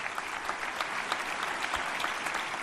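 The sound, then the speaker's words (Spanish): Steady applause from an audience at a ceremony awarding the Medal of La Rioja, a dense wash of many hands clapping continuously at an even level, with no speech over it. “Aplausos en reconocimiento a una entidad en la que trabajan, como has escuchado, 36 personas y que está disponible las 24 horas, los 365 días del año.”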